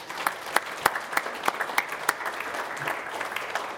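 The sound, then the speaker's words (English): An audience at a teaching center claps steadily in thanks for their attendance, participation and commitment to teaching. Many hands overlap into a dense patter, with sharper individual claps standing out at a quick, uneven rhythm throughout. “So a round of applause for that, please.”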